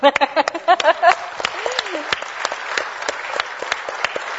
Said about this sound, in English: And I want to ask to stand up again because she deserves a double clap.